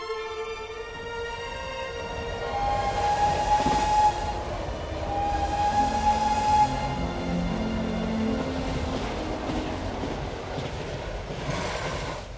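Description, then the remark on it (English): A Eurostar high-speed train rushes steadily along the rails towards Paris with a continuous loud rumble, while two long, sustained horn blasts sound early on. No voices are heard. “I took a sip of cappuccino and relaxed in the first-class seat of the Eurostar train as it sped towards Paris.”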